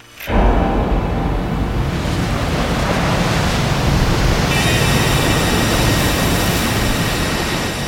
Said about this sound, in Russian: Ночью разразился шторм. Казалось, море бушует под самым балконом. На меня напал беспричинный страх. Казалось, что море подбирается к стенам, и весь наш отель вот-вот погрузится в морскую пучину.